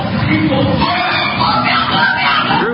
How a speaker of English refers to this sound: The video shows the neophytes, or initiates, kissing a skull, then performing a mock human sacrifice. Horrific screams caught on tape include chants of, "The devil equals death, death equals the devil."